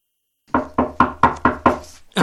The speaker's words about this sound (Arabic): ولما وصلا طرقت أم همام الباب.